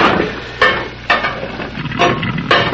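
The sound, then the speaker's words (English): Steady crackling sizzle of scrambled eggs and bacon frying in a pan, with a few sharp scraping or stirring clicks cutting through at irregular intervals. No one speaks. “Well, I guess you might as well scramble me a couple of eggs, too, and some bacon.”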